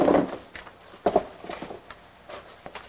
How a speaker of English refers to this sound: Tossing a dish towel into the sink, he goes to the cupboard and swings open the door.